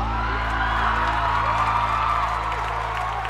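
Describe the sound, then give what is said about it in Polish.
A crowd applauds and cheers for a host, a steady, dense wash of clapping with scattered whoops, holding at an even loudness for the full few seconds without a break. “Do mnie brawa!”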